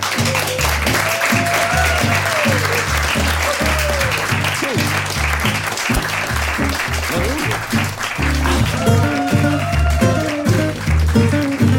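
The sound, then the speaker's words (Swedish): A crowd claps steadily and loudly for about twelve seconds, the dense patter of many hands filling the whole stretch, with a few scattered voices and cheers rising underneath. “Och med det sagt så tycker jag vi alla ger oss själva en applåd där inne och håll stilen.”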